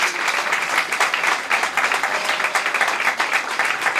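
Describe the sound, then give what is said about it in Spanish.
Sustained audience applause, a dense wash of many hands clapping at a steady, fairly loud level throughout, with bright crackling texture and no voices standing out. “que son las personas para las que pido un fuerte aplauso porque les apoyan para que salga todo bien.”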